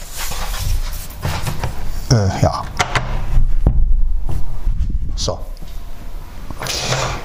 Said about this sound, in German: die Tür ist zugefallen. So. Aber wir schließen gleich die Fenster wieder. So. Ist ja nur die Tür zugefallen. Ja, so windig ist es, ne?